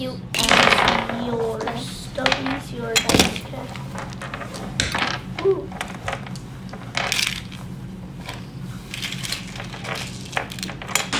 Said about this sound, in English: Could I have my box? You can grab my dice too. You get these dice. Yes. Please keep those safe.